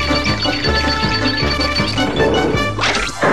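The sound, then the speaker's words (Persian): In a Tom and Jerry cartoon, a loud clattering crash as Tom uses a crane to drop Jerry into a metal trash can bursts out near the end over bouncy cartoon music with steady thumping beats underneath. “تام با یه جرثقیل جری رو بر میداره و اونو توی سطل زباله میندازه.”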